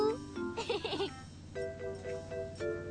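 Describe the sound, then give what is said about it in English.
A voice imitates a cow's moo while looking for cows, with a wavering, drawn-out call, followed by several shorter, steady tonal calls in a fairly regular rhythm, moderately loud. “Now let's look for cows. Cows! Moo!”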